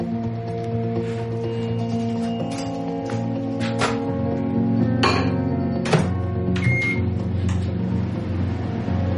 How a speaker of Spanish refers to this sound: Echa nachos en un bol y luego queso por encima. Después lo mete en el microondas.